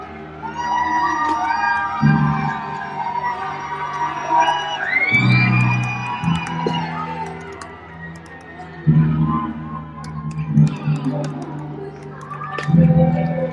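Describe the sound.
A large stadium crowd at a Threshers game cheers and whoops continuously on a Christmas evening, a dense wash of overlapping voices with several louder surges of shouting breaking through every few seconds.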